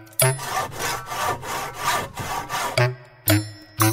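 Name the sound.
hand saw cutting wood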